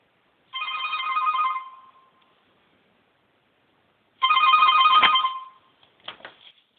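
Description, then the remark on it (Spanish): Two long ringback tones of an outgoing phone call to Faunia, each about a second and a half, separated by a pause, followed by faint clicks as the line connects. No one speaks. “A ver, voy a llamar a Faunia. A ver que busco el teléfono.”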